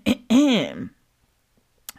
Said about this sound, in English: had to fake clear my throat right there.